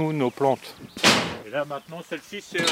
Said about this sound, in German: stößt die Tür zu einem gläsernen Gewächshaus auf. Innen ist es warm.